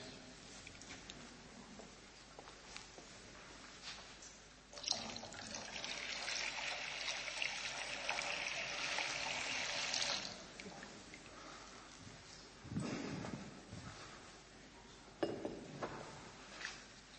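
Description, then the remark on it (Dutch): Water is poured steadily into a baptismal font at the start of a baptism, for about five seconds, a bright splashing stream, with quieter trickles and small splashes before and after. “aan het begin van dit deel waarin we gaan dopen, wil ik ook het doopvont vullen met water.”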